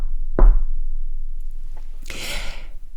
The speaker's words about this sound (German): Doch plötzlich gefror sein Grinsen, als es an der Tür laut klopfte. Tock, tock.